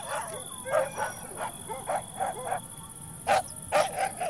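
Dogs bark and yip in a rapid, uneven string of about a dozen short, sharp calls, moderately loud, with brief pauses between bursts and no one talking.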